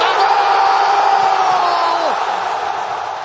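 A dense, roaring crowd in a nearly sold-out Zbrojovka Brno stadium cheers loudly and steadily during a match against Sparta Prague, with whoops and shouts rising above the wash of noise, a long falling yell near the middle, then a slight easing toward the end.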